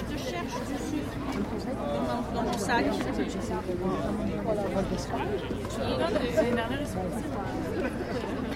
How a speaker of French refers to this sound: Ce bruit de foule, c'est celui que l'on a pu entendre dans la file du Circle de l'école Vertigo de Turin